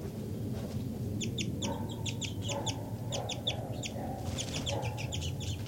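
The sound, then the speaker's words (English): A bird, designated 5-9, gives flight calls: quick, high-pitched chips in short clusters of two or three, repeated steadily over a constant low rumbling background, with no one talking. “5-9 continues to give flight calls.”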